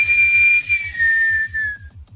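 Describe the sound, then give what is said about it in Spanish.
A person whistles a single long, steady note that slides slightly lower before stopping, with breathy hiss around it and a soft, rhythmic low thumping underneath. “Doble silbido, señor.”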